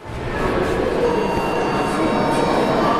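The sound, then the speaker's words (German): Steady, enveloping ambience of the arrival hall of the train station in Przemyśl, Poland: a continuous low rumble with a dense wash of indistinct background noise that fades in and holds at a constant level. “Eingewickelt in Mantel und Schal sitzt sie bequem in der Ankunftshalle des Bahnhofs in Przemyśl auf einer Holzbank.”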